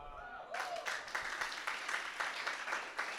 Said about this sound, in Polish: Ej, dlaczego myślicie, że my klaskamy? Bo wiemy, jak bardzo uwalniające to jest.